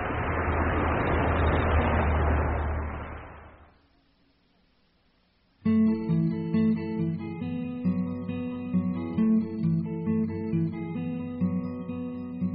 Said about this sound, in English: Bus. Ah, here comes the bus.